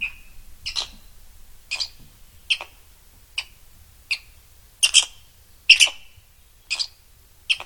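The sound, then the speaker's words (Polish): A squirrel's call played back from an exhibit when a button beside the animal is pressed: a series of about a dozen sharp, high chirps at slightly irregular intervals, clear, over a faint low background rumble with no talking. “A spróbujmy na przykład wiewiórkę.”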